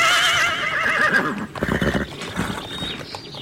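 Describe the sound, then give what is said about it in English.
A horse whinnies loudly in a wavering, high call, followed by the rhythmic clip-clop of hooves and rattling as a horse-drawn carriage rolls past a castle in daytime. “A horse-drawn carriage rides past the castle.”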